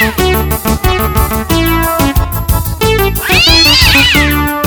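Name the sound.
cat meowing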